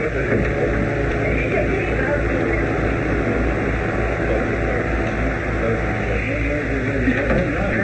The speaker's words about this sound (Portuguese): Estamos chegando. Oh, por favor, aguardem a lancha atracar.